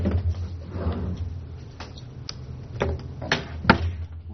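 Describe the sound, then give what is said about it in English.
A drawer is pulled open, followed by several short knocks and clatters as a calculator is rummaged for and lifted out of it, over a low steady hum. “you got a calculator in your drawer? Yeah, right here.”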